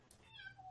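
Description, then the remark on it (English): A single drawn-out cat meow, quiet and slightly muffled, from outside a door, preceded by a brief soft click, with no voices present. “And my cat is meowing outside my door.”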